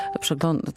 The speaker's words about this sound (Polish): to był dźwięk mojego komputera, przepraszam, już naprawiam swój błąd.